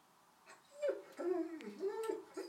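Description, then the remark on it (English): A dog named Vance whines in a series of high, wavering, nasal cries that rise and fall in pitch, moderately loud over a quiet background. “I mean, Vance gets what he wants when he whines.”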